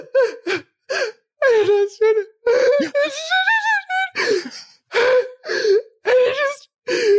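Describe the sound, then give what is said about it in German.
A voice imitates heavy, breathless sobbing: a rapid series of gasping, wavering whimpers and choked wails with sharp intakes of breath between them, fairly loud. “und dann, ich habe so geheult, ich konnte nicht mehr, also dieses Heulen, wo du nicht mehr atmen kannst, so.”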